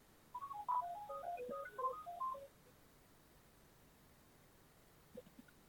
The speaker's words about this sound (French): excusez-moi, je vais éteindre le téléphone parce que la téléphone qui sonne.